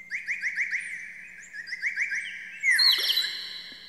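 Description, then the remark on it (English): A teeny blown whistle shaped like a shot glass with a top and a teeny little pipe makes a fast series of rising, bird-like chirps, pauses briefly, then jumps to a louder, shriller warble that sweeps downward and fades. No one speaks. “It's a teeny little thing, about it looks kind of like a shot glass, only it's got a top on it and it's got a teeny little pipe, and depending on how you blow into it, it makes all these wonderful noises.”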